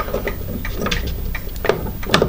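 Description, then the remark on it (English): A chime clock's front case is opened and its key is put into the two front holes and turned, producing an irregular series of small mechanical clicks and light ratcheting taps with no talking. “It's probably 1920s, 1930s, I don't honestly know, but it's a basic chime clock. It's just got the one chime sound. You pop the front open and there's a key here which you put in the front holes.”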